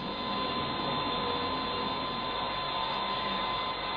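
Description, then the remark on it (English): A steady, unbroken mechanical whir like an electric drill running, with a constant hum and an even loudness that holds throughout the four seconds. No voices are heard. “Oh, I thought it was the drill.”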